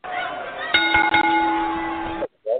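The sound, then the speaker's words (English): A bell rings out loud, struck a few times in quick succession with a long ringing sustain that cuts off abruptly, followed by a brief voice. “Gotta ring the bell in the show.”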